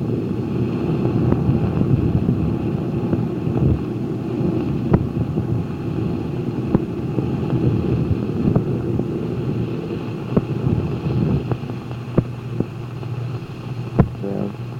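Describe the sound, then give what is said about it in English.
A steady, loud roar of water rushing past a ship moving at about 25 knots, heard through a porthole, with a constant low rumble and wind buffeting the microphone, plus occasional sharp splashes and slaps cutting through. “The roar of the water as we're cutting through the water, we're going about 25 knots.”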